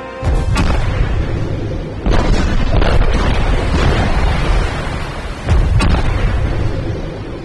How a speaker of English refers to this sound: The sound of the explosion was incredible, and more than the Cheyenne sonarmen could withstand.